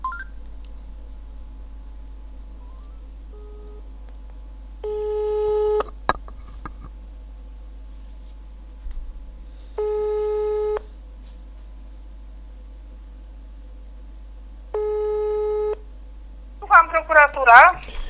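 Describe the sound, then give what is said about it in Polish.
A telephone call to the prosecutor's office in Piaseczno on 22 May 2018 rings back three times, each steady buzzy tone lasting about a second and spaced five seconds apart over a low hum, before a voice answers briefly at the end. “Dzwonię do prokuratury w Piasecznie.”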